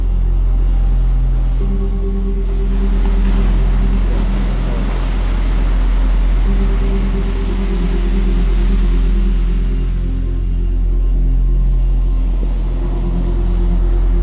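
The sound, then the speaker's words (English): Ocean waves wash in a steady, rolling hiss that gently swells and fades every few seconds, over a continuous low droning hum. No one speaks. “I like the sound of the waves too, so keep that on as well if you can.”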